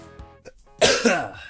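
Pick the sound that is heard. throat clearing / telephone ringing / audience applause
throat clearing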